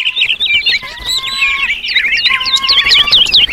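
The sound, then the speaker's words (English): A dense chorus of hundreds of birds of all shapes and sizes chirping and calling at once, overlapping tweets and whistles filling the air continuously, loud with no pauses. “Before long, they were surrounded by hundreds of birds of all shapes and sizes, each attracted to the mesmerizing colors of Silvarus's hair.”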